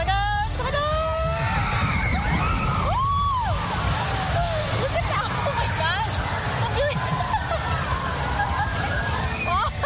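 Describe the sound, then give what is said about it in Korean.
A steady wash of rushing, splashing water fills the scene while a crowd of riders and onlookers yells and shrieks throughout, loud, as the Boston Tea Party Shoot the Chute boat ride plunges down, making a wave of up to 18 m, in an old downtown Boston themed area. “여기서 가장 유명한 놀이기구는 보스턴 티 파티 슛 더 슈트라는 보트 라이드인데. 18m에 이르는 파도를 만들어내죠.”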